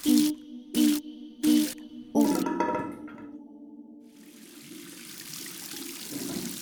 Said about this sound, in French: Dans notre salle de bain, eau chaude, eau froide et jolie mélodie coule de la douche.